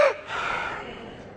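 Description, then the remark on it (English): A single deep diaphragm breath drawn in, starting with a quick gasping intake and trailing into a long, airy rush of breath that slowly fades. “Number three, diaphragm breathing. Everybody all together.”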